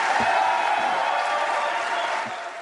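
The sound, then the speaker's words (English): A large crowd applauds steadily after a line in an Iowa governor's speech, a dense wash of clapping with scattered cheers; the applause, which went on for over a minute, begins to be faded out toward the end. “Regardless of race, gender, or sexual orientation, in the interest of time, we faded out the applause, an applause that went on after that line for over a full minute.”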